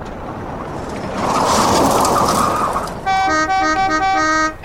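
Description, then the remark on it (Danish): A car rumbles up outside a castle with rising engine noise, then its horn blares in a quick series of loud, melodic toots, with no voices. “Jeg har fået bilen! Nu kan vi få hinanden!”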